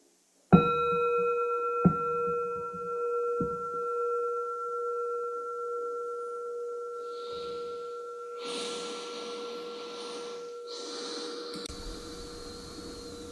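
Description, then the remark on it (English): A meditation bell is struck once, then tapped again softly, its clear steady tone ringing on and slowly fading, while soft breathy rustling noises rise underneath toward the end. No one speaks. “So we understand that the pause that's invoked by the bell is an invitation to kind of let go of outer senses”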